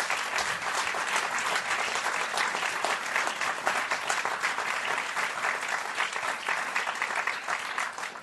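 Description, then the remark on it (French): Steady applause from an audience, a dense crackle of many hands clapping at an even, sustained level for several seconds with no voices over it, for the evening's lighting technician, Mickaël, at a Saturday night show. “Mesdames et messieurs, à la technique ce soir, à la lumière, il y avait Mickaël, le fidèle Mickaël, on peut l'applaudir, un grand merci.”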